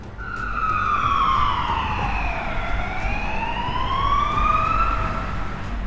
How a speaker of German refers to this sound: Und gefühlt alle 2 Sekunden ist so ein Polizeiwagen immer vorbeigefahren und die Sirene passte einfach auch perfekt wieder zu dieser Stimmung.